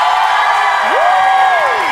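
A large festival crowd cheers in a steady, dense roar, and a single high whoop rises, holds, then slides back down above the noise.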